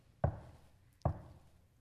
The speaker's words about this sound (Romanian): Dar El stă la ușă și bate.